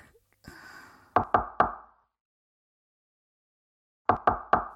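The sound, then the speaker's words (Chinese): Two sets of three firm, fairly loud knocks on a home's door early in the morning, separated by a few seconds of silence, with a soft rustle just before the first set. “啊，谁呀？一大早上就敲门。”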